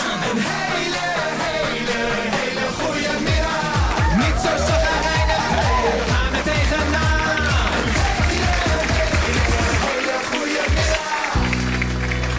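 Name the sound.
applause sound effect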